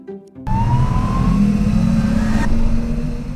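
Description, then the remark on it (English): A bus engine starts up suddenly and revs loudly as the bus departs, a deep rumbling roar with a rising whine that holds steady, with no voices. “Buckle up, explorers. Brains in. Wheels up. Let's go!”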